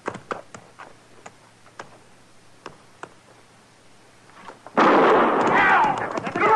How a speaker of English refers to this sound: All right, move up on the line. Now, I'll fire one shot.